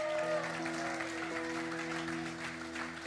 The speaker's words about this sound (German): Hey, können wir Online-Church auch einen riesen Applaus geben?